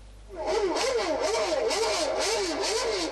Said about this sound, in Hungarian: A Magnóból is a Forma 1-es autók hangja szólt ebéd közben ennél a német társaságnál.